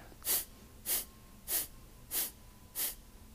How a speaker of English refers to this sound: And again, it's an active exhale where you pull the belly in, and a passive inhale. And it looks like this. I'll demonstrate just a few rounds.